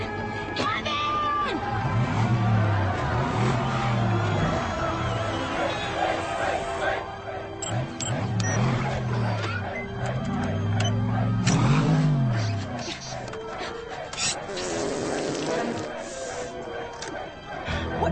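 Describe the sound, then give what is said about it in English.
A small car engine revs up and down several times in repeated rising and falling sweeps, fairly loud, with busy background noise throughout. “crazy little car.”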